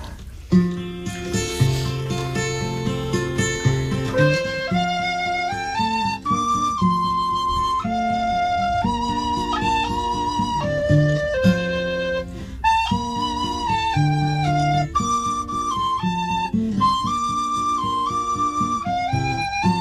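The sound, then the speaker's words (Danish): A flute plays the folk tune The Highlanders Farewell, a lilting melody with clear notes stepping and sustaining in a steady, unbroken line for the whole stretch, with no voices. “Og se, nu har jeg taget en anden fløjt.”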